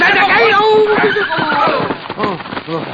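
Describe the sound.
A horse named Lobo whinnies loudly during a race on horseback up to a little canyon, its shrill, wavering neigh carrying through the opening second, while people talk over and after it.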